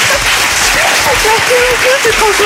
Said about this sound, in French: Déjà, vous pouvez l'applaudir.